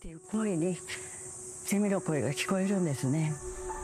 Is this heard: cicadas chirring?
yes